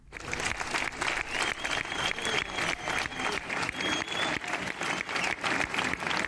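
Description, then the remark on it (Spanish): Sustained applause from an audience at a tribute to José Luis Ibarzabal in Leioa, a dense, steady clatter of many hands clapping at once for several seconds, with a faint murmur of crowd underneath and no one speaking. “Es José Luis Ibarzabal, pero si te parece, lo vamos a recibir... pues como se merece, con estos aplausos, fíjate.”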